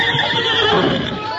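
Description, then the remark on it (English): The horse Silver whinnies in one sustained, high, wavering call lasting over a second, loud and steady, with a faint clatter underneath and no talking. “Silver think time to ride way. Him not understand.”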